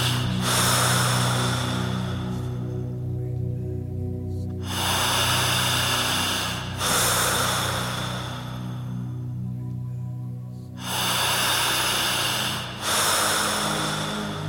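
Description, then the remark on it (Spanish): Slow, deep breaths rise and fall in long, airy cycles, each inhale and exhale lasting a couple of seconds, clear over a steady low hum. “Concéntrese en esta respiración.”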